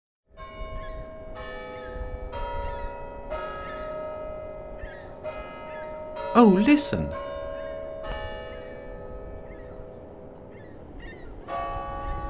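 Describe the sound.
Big Ben, the large clock tower bell in London, strikes three o'clock in a steady series of deep, resonant strikes, each leaving a long humming tone. Someone speaks briefly partway through.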